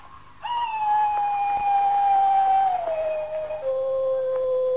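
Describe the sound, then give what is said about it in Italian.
A jackal howls once in a long, sustained, fairly high wail that drifts slowly lower in pitch over several seconds, loud, with no one speaking. “Questo sciacallo ulula in un modo strano.”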